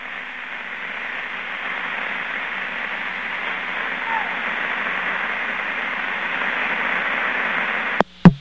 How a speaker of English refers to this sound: I'd say very definitely that was street noise.